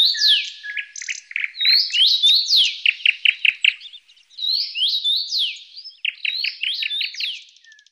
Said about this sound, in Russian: Свиристели. К нам с ветрами прилетели стайки ярких свиристелей. Налетели свиристели, 100 свирелей засвистели.